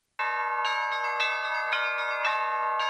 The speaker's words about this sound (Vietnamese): Những tiếng chuông vang lên từ một nhà thờ chính thống giáo phương Đông ở miền cực Nam của thế giới. Valentin Kirillov rung chuông để gọi bất kỳ ai muốn cầu nguyện đến dự thánh lễ trên hòn đảo dân cư thưa thớt này ở Nam Cực.